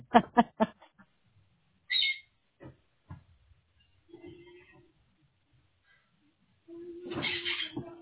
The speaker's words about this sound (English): Sorry, your birds are, I don't know what you have there, but you have some excitable birds.